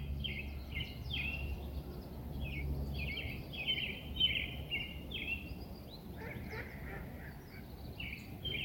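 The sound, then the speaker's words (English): Birds call over and over in a park in Vancouver, a steady series of nasal, honking cries, several overlapping, above a continuous low rumble. No one speaks. “And it is a great day for birds. Can you hear them?”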